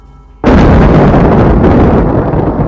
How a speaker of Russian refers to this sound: И только тогда грянул гром.